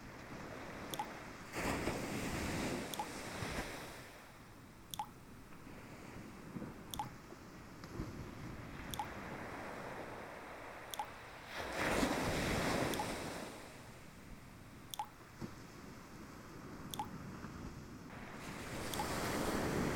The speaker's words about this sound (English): Yes, just go ahead and let your body just feel the waves, feeling the waves, drifting away, drifting to my voice, feeling so calm and relaxed.